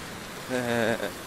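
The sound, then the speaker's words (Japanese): A fountain in Beito Park (米東公園), across the road from Shin-Beito Station (新米東駅), splashes in a steady, hissing wash of falling water, while a voice briefly rises over it midway through. “聞こえますかね、噴水の音。”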